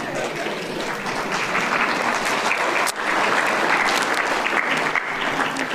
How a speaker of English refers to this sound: that clap was for that shirt alone.